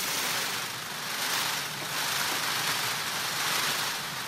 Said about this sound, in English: Scientists call this the peacock's train rattle. You might also call it the sound of peacock love. That train rattle is also causing a vibration in the air that we humans can't feel. But female peacocks, or peahens, can.